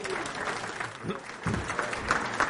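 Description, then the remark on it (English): An audience applauds steadily, a dense wash of many hands clapping at an even, moderate loudness for a couple of seconds. “And I think a big round of applause should go to Vic's Painting.”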